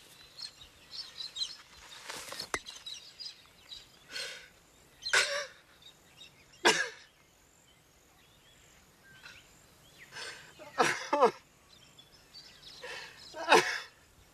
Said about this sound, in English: His determined stride tails off, and his face begins to crumple. He drops to his knees, sobbing.